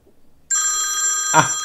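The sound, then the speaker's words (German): A telephone rings with an expected incoming call, a bright, sustained electronic tone that starts abruptly after a moment of near silence and holds steady and loud, with a brief thump just before the end. “Der wollte doch anrufen.”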